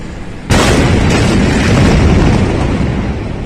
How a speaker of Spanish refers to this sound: El pasado 4 de agosto, una enorme explosión en el puerto de Beirut hizo saltar por los aires buena parte de la ciudad. Casi 3.000 toneladas de nitrato de amonio detonaron por motivos que aún se desconocen.